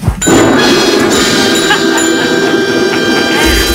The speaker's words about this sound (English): Bell.